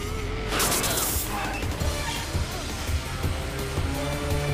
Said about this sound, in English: He rides into a tunnel with strobe lights bordering its walls. The vehicle soars and lands hard on a road.